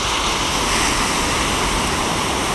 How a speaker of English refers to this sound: It's quite astonishing just how quickly the tide comes in. Since I've been stood here, it's moved up the shoreline, I imagine about 12 feet.